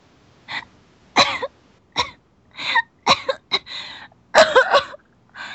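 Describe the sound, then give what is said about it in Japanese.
A sick girl in a hospital room, bent double on her bed in a coughing fit: about nine harsh coughs in uneven bursts, some in quick doubles, moderately loud with brief pauses between them and no talking. “娘が咳込み始めて。”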